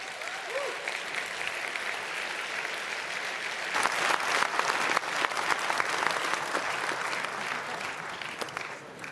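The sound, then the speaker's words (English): Sustained audience applause after a research talk at CCC, a dense wash of clapping that holds steady for several seconds and swells slightly louder midway before tapering. No one speaks. “That was your applause.”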